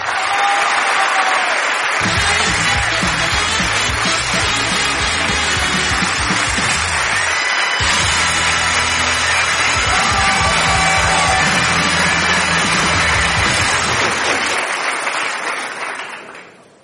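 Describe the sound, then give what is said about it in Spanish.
Loud, sustained applause from a large audience welcoming a man being introduced on stage, mixed with cheers, whoops and shouts, continuing steadily for about seventeen seconds before tapering off at the very end. “Y ahora quiero un aplauso maravilloso para un hombre maravilloso.”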